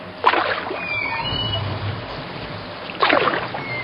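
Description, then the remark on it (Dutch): A small rowboat in the middle of a river drifts rudderless with the current after the ferryman lets go of the oar, with two distinct splashy bursts of an oar or hull near the start and end over a steady wash of flowing water. “En daar liet de veerman plotseling de roeiriem los, zodat het vaartuigje stuurloos met de stroom meedreef.”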